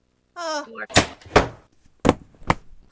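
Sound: door being closed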